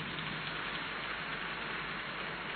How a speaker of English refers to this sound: Your clapping is very suspicious and weak. Clap your hands and say something.